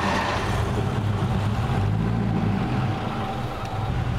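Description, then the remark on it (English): A Rolls-Royce-derived car engine of the kind used in Phantom IV state limousines, fitted with a big cooling fan and radiator, is fired up and runs with a steady, deep, throbbing rumble, holding an even loudness throughout with no voices over it. “One of the interesting things about this engine, because it is from a Rolls-Royce background, it's designed to be also very tame when it was used in the Phantom IV state limousines.”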